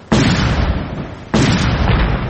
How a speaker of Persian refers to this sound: صدای انفجارهای پیهم و تیراندازی به گونه پراگنده شدت گرفت.